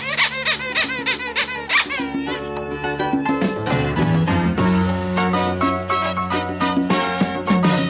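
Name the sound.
squeaky toy squeaking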